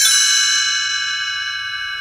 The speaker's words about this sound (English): You will notice time to turn the page when you hear the chimes ring like this.